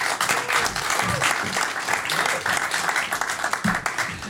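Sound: loud audience applause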